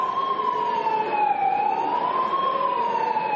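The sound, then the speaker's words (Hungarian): A siren wails steadily through a megaphone, its pitch sliding slowly down and back up in one long, continuous cycle, sounded by several LMP politicians in the parliament chamber in protest just as a roll-call vote began. It is loud, with no voices over it. “Alig, hogy elkezdődött azonban a voksolás, több LMP-s politikus megafonnal szirénázni kezdett az ülésteremben.”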